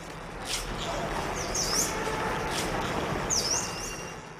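Steady outdoor park ambience with a soft, broad hiss, punctuated by a few short, high-pitched bird chirps that come in two quick bursts a couple of seconds apart.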